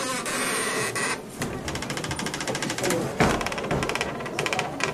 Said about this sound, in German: Die knarrt irgendwie schon so verdächtig und geheimnisvoll. Also Türen, die so quietschen, die könnten der Auftakt zu einer spannenden Geschichte sein.